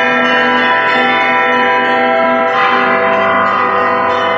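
Church bells rung by hand by a bell ringer of the Kolomenskoye museum, loud, their rich overlapping tones ringing continuously, with a fresh cluster of strikes swelling partway through. No voices.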